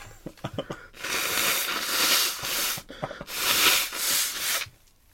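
Someone blows their nose twice, each a long, loud, rough burst of breathy air lasting over a second, with a few short sniffs and rustles before the first blow.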